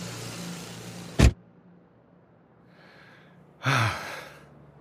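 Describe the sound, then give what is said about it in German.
Loud, dense street traffic roar of small and large cars, ambulances, buses, trucks and motorcycles fills the first second, then a sharp thump cuts it off into near-silence; a brief whooshing burst follows near the end. No voices. “Kleine Autos, große Autos, Krankenwagen, Busse, Lastwagen und Motorräder machen so viel Lärm, da kann man nichts mehr hören.”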